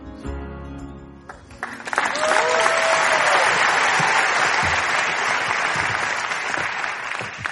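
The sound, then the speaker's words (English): A crowd bursts into sustained applause as the hosts walk to their seats, a dense, steady wash of clapping that swells quickly after a brief musical sting and holds loud to the end, with faint cheers mixed in. “It's really awkward when the applause dies before we get to our seat.”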